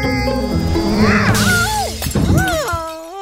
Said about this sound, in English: Shattering the entire glass ceiling of the greenhouse into a million tiny pieces.